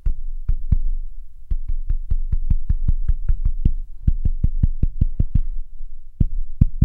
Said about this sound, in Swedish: Du vet, mina ungar gör det här till exempel. De tycker att det är en rolig lek, att man knackar en låt i typ köksbordet och sen, ja, så, det, och sen så ska jag gissa vad det är för något. Okej, lyssna här.